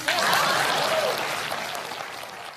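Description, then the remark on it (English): An audience applauds presidential candidate Jeb during his 2016 campaign, in a steady, dense wash of clapping that holds for a couple of seconds and then slowly tapers off, with a brief vocal cheer rising early on. “Please clap.”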